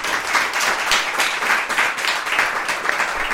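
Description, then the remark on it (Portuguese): A crowd applauds steadily, a dense wash of many hands clapping at once with no pauses, staying fairly loud and even for the whole few seconds, showing how much they enjoyed the breakfast and thanking Therapist for it. “Pessoal, por aplauso, quanto é que gostaram do pequeno almoço?”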